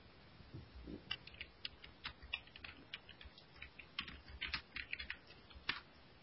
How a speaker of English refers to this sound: I was just typing in, actually.